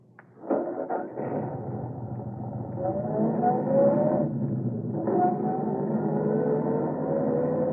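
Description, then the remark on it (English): A car engine starts up after a few sharp knocks, then drones steadily as the car drives along a road, its pitch climbing through gear changes, with no voices. “Take your eyes off it. Watch the road.”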